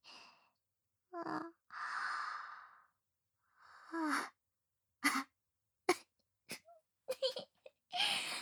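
Drawn-out, breathy yawns from two voices, one after another, with groaning sighs mixed in, then a scatter of short soft breaths and small mouth sounds. Quiet overall, with no talking.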